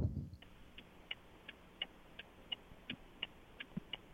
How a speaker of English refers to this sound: Well, the clock is. Somebody's clock is on the air.